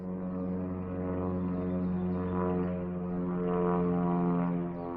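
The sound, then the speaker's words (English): An airplane flies over a park, a steady, humming engine drone with layered harmonics that swells gently louder toward the end and never fades out, with no voices. “That's an airplane flying over the park.”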